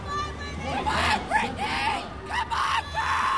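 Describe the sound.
Several voices cheer and shout in loud, overlapping bursts, rising and falling in rhythmic waves of encouragement over a steady crowd babble.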